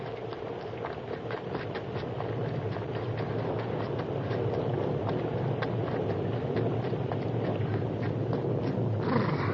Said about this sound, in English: First storm I ever saw. Gotta find shelter. There's a cave just ahead. Get in there away from the rain, lightning. Wait for the storm to blow over.